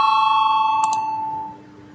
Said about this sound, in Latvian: Lūdzu zvanu balsosim par 8. deputātes Ikstenas iesniegto priekšlikumu.